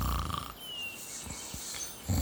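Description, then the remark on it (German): Rough snoring: a rumbling snort at the start and another at the end, with a breathy, hissing lull between them. No one speaks. “Der Waldhüter schnarcht in der Glitzerkiste.”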